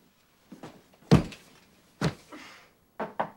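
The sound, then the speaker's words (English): In an apartment, an exhausted woman bangs her head against a wall in a string of dull, fairly loud thuds: two spaced-apart knocks, then three quicker ones at the end, with softer shuffling sounds before them and no talking. “Now, at Lucy's apartment, exhausted, Lucy opens the door, drops her bag, then walks directly to the opposite wall and bangs her head.”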